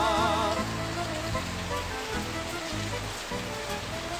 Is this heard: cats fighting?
no